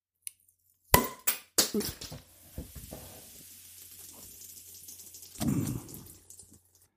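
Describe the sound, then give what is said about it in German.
A 0.33-litre swing-top bottle of Stahnemer Bock, a 7% bock beer from the small Stahnemer Braukunst brewery in Stahnem, pops open with a few sharp, loud clacks as the cap blows off, followed by a steady soft fizzing hiss and a brief louder gush of foaming near the end. “Ups, da hat die aber mal so richtig Dampf drauf gehabt, dass selbst den Deckel weggeweht hat.”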